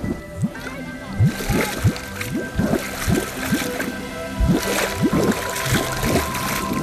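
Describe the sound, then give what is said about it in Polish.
Thick bubbling and gurgling from a hot volcanic pool hidden by steam, with rapid irregular pops and blurps over a steady hiss of steam. “Słyszę, że coś bulgocze, ale tego nie widzę, bo para mi zasłania.”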